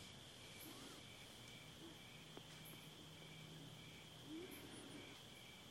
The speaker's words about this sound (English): Got the sound of the crickets in the background. We'll let it stay in the background.